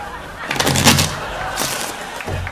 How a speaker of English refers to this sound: Something very soothing about the sound, shuffling of cards. I've always enjoyed it.